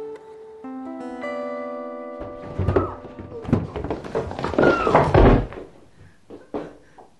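A sustained tonal chord fades into a tumbling series of dull, heavy thumps at an irregular pace: a woman's body, heels, feet and hips, striking the worn treads of the stairs in a narrow stairwell, with a final softer knock.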